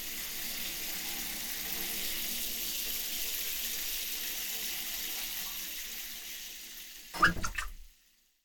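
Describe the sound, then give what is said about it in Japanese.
A shower runs in a hotel in a steady hiss of spraying water for about seven seconds, then a brief louder splash or clatter as it shuts off, leaving silence. No one speaks. “シャワーも浴び終わったし、準備できた？”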